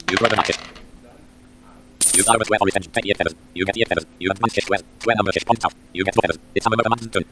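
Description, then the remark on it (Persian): Dice clatter and rattle as they are rolled during a board game, a quick run of sharp, bright clicks that repeat in short bursts for several seconds, fairly loud, over a faint steady hum. “حالا من ثرود دای رو میزنم و تاس میریزم.”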